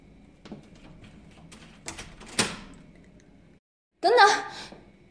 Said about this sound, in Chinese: 你是在锁门吗？你竟然把门反锁了，有点不对劲啊！